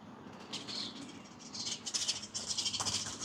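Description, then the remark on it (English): Birds fighting: a run of harsh, scratchy squawks and fluttering bursts, irregular and overlapping, fairly quiet, with no voices over them. “yeah, sorry, birds are fighting.”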